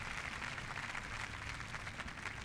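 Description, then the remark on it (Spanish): An audience applauds steadily after the Orquesta Nueva Filarmonía, conducted by Eduardo Mata, performs Silvestre Revueltas' symphonic poem Itinerarios: a dense, even wash of many hands clapping at once without letting up. No voices are heard over it. “El público aplaude la interpretación de la Orquesta Nueva Filarmonía, dirigida en esta ocasión por Eduardo Mata.”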